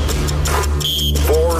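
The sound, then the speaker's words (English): A game show buzzer sounds briefly during a cash-prize contest, a short bright electronic tone over a steady low hum, with people talking loudly around it. “Are you ready to beat the buzzer and get paid?”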